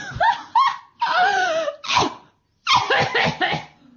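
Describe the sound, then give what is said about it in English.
A woman coughs in harsh, hacking fits, several rasping bursts close together with a brief pause midway before another run of coughs. Loud, with no talking. “Didn't sound very healthy, did she? Could do with some cough mixture.”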